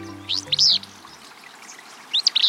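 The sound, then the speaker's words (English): A willow flycatcher, a small gray-green bird singing from atop a shrub in a dense thicket along a stream, gives its sneezy song twice, each a quick burst of two or three buzzy notes, separated by a pause, over faint trickling water, with a low hum fading out at the start. “This sneezy song belongs to a willow flycatcher, a small gray-green bird singing from atop a nearby shrub”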